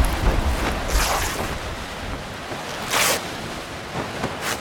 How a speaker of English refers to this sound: You okay? Yeah. We've got to get out of this storm. But where? There's nothing but trees for miles.